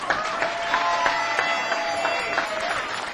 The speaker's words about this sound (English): Ladies and gentlemen, how about another round of applause for Bernard Aigner?